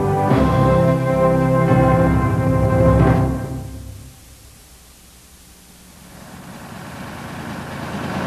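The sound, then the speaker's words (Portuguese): A Luftwaffe Messerschmitt Me-262 jet aircraft engine from the Second World War era roars loudly with layered whining tones for about three seconds, drops away to a low hush, then a broad rushing noise swells back up. “O Messerschmitt ME-262 inaugurou uma nova era e revolucionou a aviação.”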